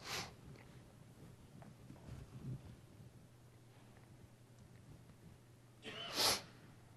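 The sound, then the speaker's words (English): A single sharp sneeze bursts out near the end, preceded by a softer breathy sniff at the start and quiet stretches with a low background hum; no one speaks. “Sorry, sniffles are coming back now.”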